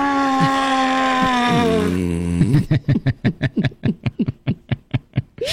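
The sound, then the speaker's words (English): A sea lion gives a long, drawn-out harmonic wail that slides downward in pitch, then breaks into a fast, steady series of about fifteen short, loud barking grunts. “That's a sea lion, by the way. That's not me. That's probably a shocked sea lion sound.”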